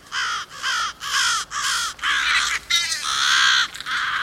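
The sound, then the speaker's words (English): Several crows caw loudly, harsh repeated calls tumbling over one another in a rapid, overlapping chorus with barely a pause between them. “Next time you're near your local burger joint, check out the dumpster to see if crows have gathered there.”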